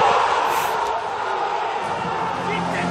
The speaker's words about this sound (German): Wir schauen gerade deinen dezenten Jubel nach dem Tor.